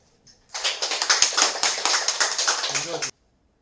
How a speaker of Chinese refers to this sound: 热烈的掌声欢迎上司为我们说法。